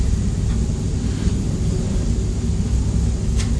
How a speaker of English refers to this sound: I can hear something that sounds like an aeroplane. And there isn't an aeroplane, is there? No. Here is an aeroplane. Let me up there. Oh, there is an aeroplane.